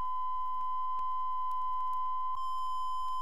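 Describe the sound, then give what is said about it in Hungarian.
A steady, pure synthesizer sine wave tone holds one mid-high pitch for about three seconds, smooth and continuous with no attack or change, faint added overtones appearing briefly near the end. “Színusz.”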